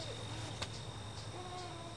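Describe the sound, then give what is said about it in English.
A thin, steady insect drone of insects singing in autumn at Troy Gardens in Madison, humming continuously at a high pitch through quiet outdoor ambience, soft, with a low background rumble and a brief faint click partway through. “You can hear the insects singing their final songs, squirrels frantically preparing for winter, and migratory birds preparing for their long journey.”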